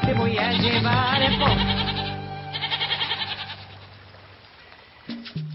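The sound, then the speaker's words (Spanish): Several goats bleat in overlapping, wavering, loud cries, with a second burst of bleating midway before the calls fade and a brief last bleat near the end. “Con las cabras como hacemos, solitas van a quedar, po.”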